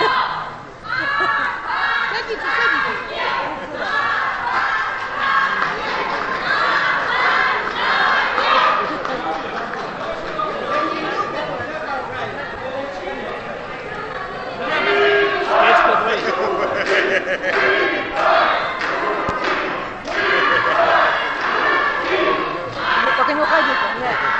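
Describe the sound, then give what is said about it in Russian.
A dense crowd shouts and cheers continuously during toasts at a celebration at TsEDRI, many voices overlapping in a loud, sustained roar with surges of yelling, reverberant. “Вы кончили кричать, можно мне сказать два слова?”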